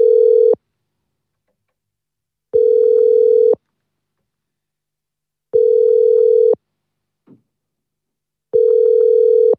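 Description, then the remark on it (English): A telephone line tone sounds in steady, loud one-second pulses, four of them separated by quiet gaps of about two seconds, with a faint click in one gap and no talking, while a call is placed to a number in the USA. “Dann ist eben die Vorwahl von den USA. Jetzt sollte das eigentlich passen. Ja, und wir probieren hier mal, die Leute zu erreichen dort.”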